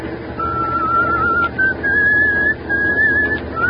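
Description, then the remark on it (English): Someone whistles a slow, steady tune in long sustained notes with short breaks between phrases, clear over a low background rumble, aboard a truck driving a foggy stretch of Highway 9W in eastern Pennsylvania. “if you got a whistle, at least change that tune.”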